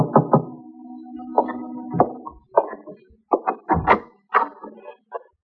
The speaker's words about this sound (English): At 7:45, there was a knock on my door.